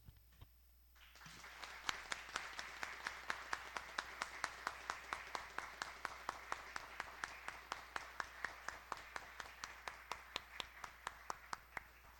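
In a legislative chamber, a roomful of people standing on their feet bursts into loud, sustained applause after a brief quiet moment, a standing ovation for a sergeant, with sharp, steady claps standing out from the dense clapping throughout.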